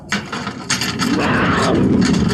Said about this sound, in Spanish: El tigre se pone más inquieto al oír que los cerrojos se abren desde afuera.